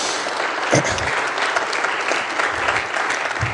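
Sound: audience clapping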